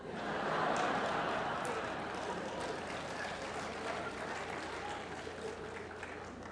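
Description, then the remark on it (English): An audience applauds steadily for several seconds, a dense wash of many hands clapping at once that swells early and then holds at an even level with a faint murmur of voices underneath. “I'm worried about those of you that didn't clap on that one.”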